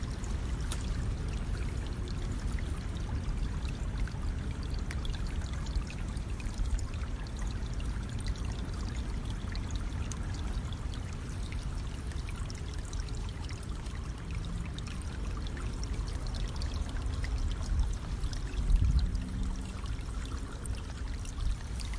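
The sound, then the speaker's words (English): Fast-running river water rushes steadily, a dense continuous roar with a constant churning texture and no voices, holding an even loudness throughout. “One day they came across a river, beautiful but running fast.”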